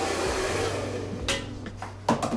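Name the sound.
hair dryer blowing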